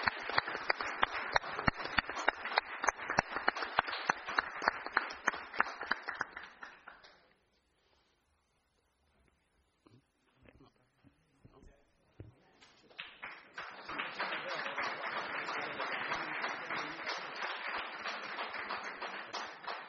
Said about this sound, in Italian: In realtà c'è un applauso e c'è la consegna degli assegni, c'è la consegna dell'assegno da parte della famiglia.